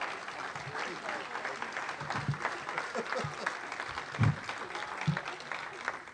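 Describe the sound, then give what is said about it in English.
Steady audience applause fills the whole stretch, a dense, even patter of many hands clapping at moderate volume, with a few louder low thumps and faint voices mixed in. “That's great. That's all the applause.”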